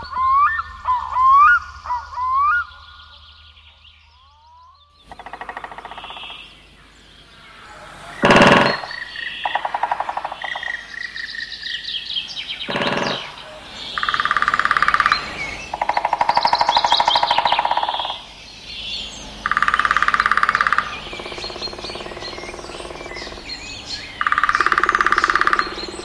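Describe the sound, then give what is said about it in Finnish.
Various native Finnish woodpecker species drum on dry branches in a series of short, rapid rolls spaced a few seconds apart, fairly loud and clear, with bird calls twittering at the start and a couple of sharp knocks. “Tässä niitä siis on tunnistettavaksi erilaisia kotimaisia tikkoja rummutuspuuhissa.”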